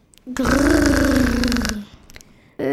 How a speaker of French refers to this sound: C'était quoi ça ? Dit Carmen inquiète alors que les portes s'ouvrent. Les enfants sont éblouis tandis qu'un nouveau grognement les accueille.